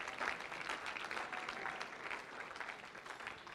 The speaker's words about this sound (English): Clap your hands to the Lord and you may be seated.